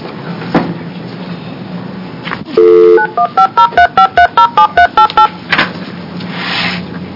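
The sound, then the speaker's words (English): A phone line's dial tone hums briefly, then a quick run of about ten touch-tone beeps dials a number in a steady rhythm, clear, with faint background noise around it. “We have some assistance have to help us get Mr. Murray on the phone”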